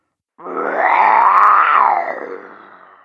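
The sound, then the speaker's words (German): A single loud, rough lion roar with no talking, swelling and then tapering off over about two seconds in one sustained, growling breath. “Es ertönte ein Schrei im Hintergrund. Du liebes Bisschen, ist das ein Löwe?”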